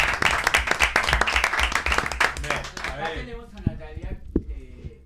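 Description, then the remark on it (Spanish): A burst of lively applause welcoming two more female guests arriving on a radio show, dense hand claps filling the first three seconds, then thinning out as voices start talking over the fading clapping. “Saludamos a tenemos dos invitadas más que ya han entrado. Un aplauso.”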